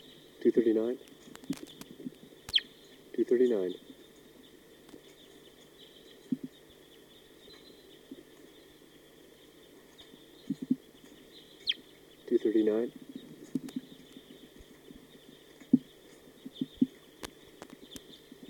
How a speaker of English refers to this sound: Start recording. There might be three birds in the treetop.